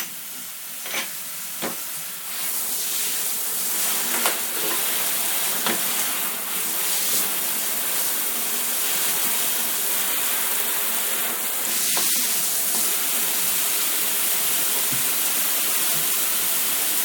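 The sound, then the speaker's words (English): A shower sprays water into a bathtub to run a bath for children, with a steady, hissing rush that swells in after about two seconds and holds evenly, with a few faint clicks and taps over it. “So I've got the shower spraying water into the bath, and here's some bubble bath.”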